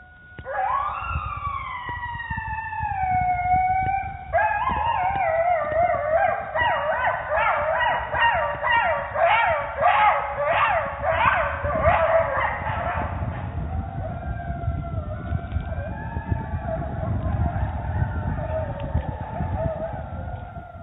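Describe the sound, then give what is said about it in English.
A pack of coyotes howls in rising, wavering wails, breaking into a frenzied chorus of overlapping yips and barks midway before long howls trail off again, loud and unaccompanied. “The second is a pack of coyotes.”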